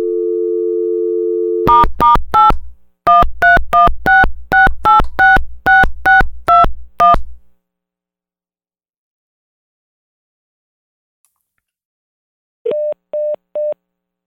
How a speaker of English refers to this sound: Yeah, clearly that broke, but it did go through the cell phone, and you can tell that it went through it. It beeps 3 times to let you know that it's going through the Bluetooth device.